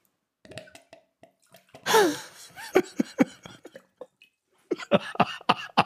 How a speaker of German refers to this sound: Das ist eine Wasserkaraffe, in Form eines Fisches, ja, also ein Keramikding. Und wenn man sich daraus Wasser einschüttet, macht sie ein sehr spezifisches Geräusch. Wenn du mal schauen möchtest oder hören.